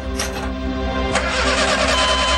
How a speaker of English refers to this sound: try to start the car!